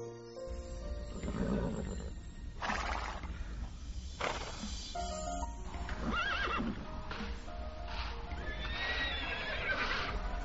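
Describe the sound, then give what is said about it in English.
Several Icelandic horses in Iceland neigh and whinny in loud, overlapping calls, with hooves clip-clopping and a steady low rumble underneath. The whinnies rise and fall in pitch, with no one talking. “Oh, there are some horses shouting.”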